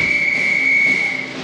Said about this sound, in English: Well, the drums keep playing so that the band can march in step. But when will they all play again? The drum major is going to blow his whistle now.